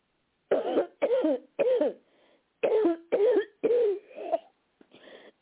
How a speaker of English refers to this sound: Take a deep breath, and I want you to cough again.